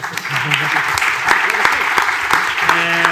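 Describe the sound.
A crowd claps steadily for about three seconds, a dense, fairly loud patter of many hands with a few sharper individual claps, while faint voices murmur underneath.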